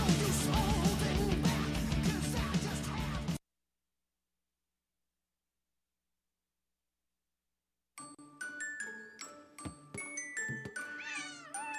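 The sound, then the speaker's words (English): After a dense burst of sound and a few seconds of silence, a cat meows several times in short, rising and falling cries, mixed with bright chime-like tones, in an advert for IAMS Proactive Health Kitten Food. “Like you, your cat goes through different life stages.”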